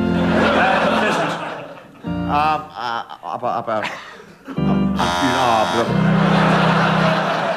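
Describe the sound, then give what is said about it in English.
A harsh, droning game show buzzer blares loudly for a couple of seconds as a challenge for hesitation, then cuts in again later, with people talking and some chuckling around it. “Nobody ever buzzes Derek Nimmo for that.”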